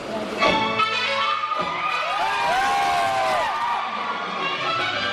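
About 500 people at a DDLJ screening in the Maratha Mandir single-screen theater in central Mumbai cheer, clap and shout over music with sustained harmonic tones, voices rising and overlapping in a steady, loud roar of excitement throughout.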